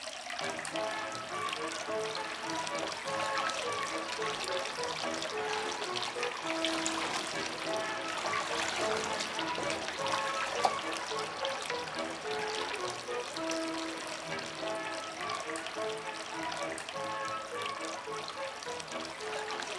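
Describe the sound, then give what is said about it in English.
Steady rain falls without letup, a continuous hissing, pattering wash of water at an even, moderate level with no voices and no breaks. “Type of rain falling that won't let up”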